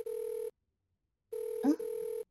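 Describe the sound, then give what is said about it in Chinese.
A phone rings with an electronic tone for an incoming call from a loved one, in two steady bursts separated by a brief silence. A short vocal sound briefly overlaps the second ring. “说着就来了，宝贝的电话。”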